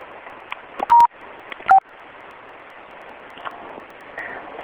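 Two short, loud telephone keypad tones from pressing star and five to mute a phone sound about a second apart, each a clean steady beep, over a faint hissy phone-line background with no talking.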